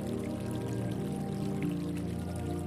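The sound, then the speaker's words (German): Water flows and splashes gently in a steady, continuous stream, a soft murmuring trickle with no breaks or voices. “Noch einen Moment wird uns das feine Plätschern begleiten.”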